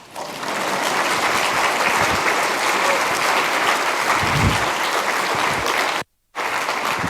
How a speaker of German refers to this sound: An dieser Stelle steht jetzt hier Klatschen.